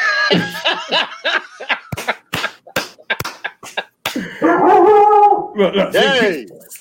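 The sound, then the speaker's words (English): A big Doberman in a house barks in a rapid run of sharp, loud barks, then breaks into longer, higher-pitched whining yelps, with voices mixed in. “Some dogs in his house. Hey, man, look, big dog.”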